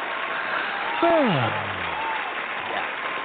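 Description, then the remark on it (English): A small crowd claps steadily and fairly loudly throughout, with a brief sliding whoop rising over the applause partway through before the clapping carries on. “Part of that applause is for you, the listeners, people who are tuned in right now”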